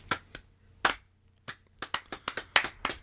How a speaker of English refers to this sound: Slow clap.